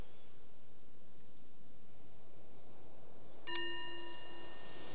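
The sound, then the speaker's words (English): A single mindfulness bell is struck after a stretch of quiet hiss, giving a clear, bright tone with shimmering overtones that rings for about a second before fading. “The bell is the invitation to bring the awareness back to your surroundings, reflecting if that was useful, this invitation to notice the pause.”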